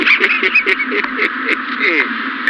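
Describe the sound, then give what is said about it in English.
A rapid run of loud, nasal, raspy duck quacks repeats without pause, filling the whole moment with steady honking calls. “Hey, Bird, that duck plugger bit right into it, didn't it?”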